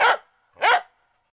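Two sharp dog barks spaced about half a second apart, loud, with nothing else around them.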